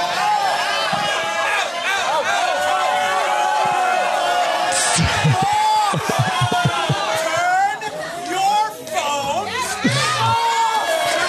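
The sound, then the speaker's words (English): A loud, dense crowd in a movie theater roars continuously with overlapping shouts and jeers, booing and yelling at a man who took his phone out during the screening, the noise swelling and dipping briefly before surging again. “He's being booed.”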